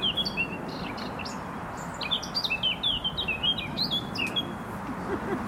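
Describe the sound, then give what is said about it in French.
A Eurasian blackcap sings a rapid, varied warbling phrase of bright whistled notes over steady outdoor background noise, with no one speaking. “Et je vais rajouter l'oiseau qui chantait, là. C'est la fauvette à tête noire.”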